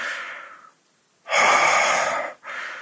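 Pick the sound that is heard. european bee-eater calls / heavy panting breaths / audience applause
heavy panting breaths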